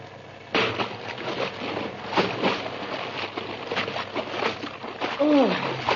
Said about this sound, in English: Yeah. I slipped when I dove off the ship's rail, and I hit the water like a ton of bricks.